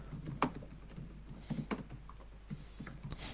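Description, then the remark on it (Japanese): Irregular bursts of keyboard typing with sharp clacking keystrokes during a live public recording. A low steady hum runs underneath and no one speaks. “キーボード打鍵音がすごい。”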